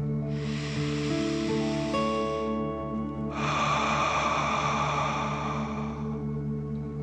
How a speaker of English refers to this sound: Last one. Fill up your chest and belly. Deep breath in and out.